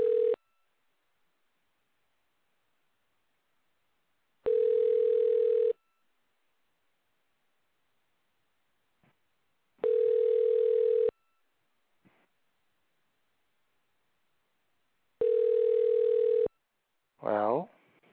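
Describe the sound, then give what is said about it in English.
A telephone line tone sounds in four steady, mid-pitched bursts, each about a second long and separated by several seconds of silence, followed by a short voice-like sound at the end, as a phone call is placed after dialing. “Okay, looks like we're going through, folks, so bear with me while I make this important phone call here.”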